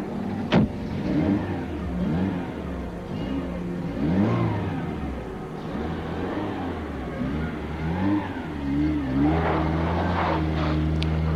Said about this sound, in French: Après avoir déposé son compagnon, il quitte Paris et file. Après plusieurs heures de route, la voiture, au petit matin,